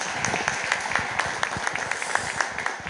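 A room full of people applauding, a dense steady patter of many hands clapping at once, sustained and fairly loud throughout with no voices standing out.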